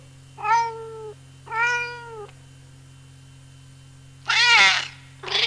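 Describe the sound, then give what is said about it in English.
A kitten meows four times with no one talking: two thin, even mews, a pause, then a louder, higher cry and the start of another, over a faint steady hum. “Look, Anna. This is my new kitten.”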